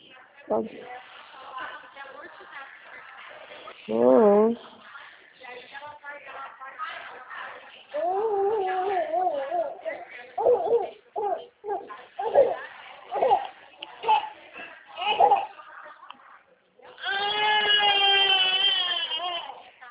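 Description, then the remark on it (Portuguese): A baby cries in loud, wavering wails that come in several bursts, with a long cry near the end and quieter fussing and background sounds in between. “Só mais um momentinho, esse neném. É, são dois, é um.”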